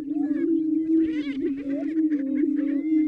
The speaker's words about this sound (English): So what you have there is a group of males in full display. You hear the deep cooing sound of the greater prairie chickens inflating these air sacs in their necks. These brown and white chicken-like birds are shuffling forward.